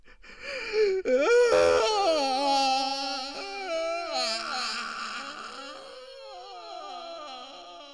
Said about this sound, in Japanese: エサウの悲痛な泣き声は屋敷中に聞こえるほどでした。